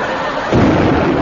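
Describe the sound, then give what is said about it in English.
A heavy cannon shot booms out as an opposing ship opens fire and a cannonball comes in, a loud low blast that swells midway and rumbles on through the rest of the moment, with no voices over it. “He's opened fire. Duck! Why? There's a cannonball coming.”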